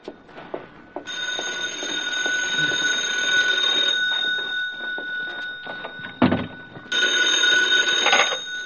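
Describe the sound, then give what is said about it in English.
A telephone bell rings loudly in two long, rattling bursts separated by a brief pause, with no one speaking. “Well, there it is, Stella. Go to it, honey.”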